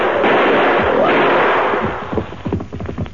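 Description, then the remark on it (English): A burst of rough, hissing noise gives way to a quick series of sharp gunshots fired at a charging grizzly bear, several loud cracks in rapid, uneven succession with no voices. “Two arrows, four bullets in him.”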